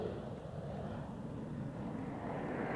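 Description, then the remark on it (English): A steady, rumbling jet engine roar of Hunter jet fighters of Treble One Squadron, the Black Arrows, going through their paces over Farnborough, fills the whole stretch, a broad, dense noise holding an even loudness as the aircraft pass, with no voices. “in the hands of the redoubtable Treble One Squadron Black Arrows, here seen going through their paces over Farnborough”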